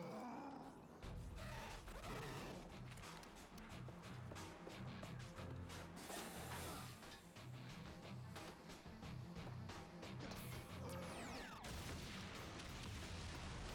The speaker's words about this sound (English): Oh, I would not be able to be that close to an explosion with what looks to be an explosive in my hand.